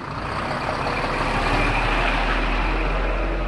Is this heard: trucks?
yes